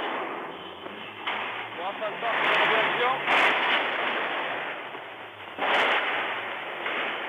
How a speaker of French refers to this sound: Il décrit donc ces manifestants qui sifflent les chars et les soldats russes. Situation chaotique, tendue, émaillée par des coups de feu.